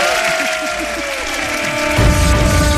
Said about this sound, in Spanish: Lo que los artistas se llevan para su casa, no siempre el dinero, el aplauso del público. Por favor, apláudanle.